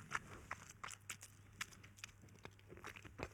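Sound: loud lip-smacking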